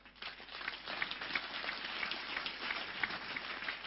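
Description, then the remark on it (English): An audience claps steadily for about four seconds during a sermon, applauding Jesus Christ: a dense, even wash of many hands with a few sharper claps standing out and no voices. “Give Him a big clap.”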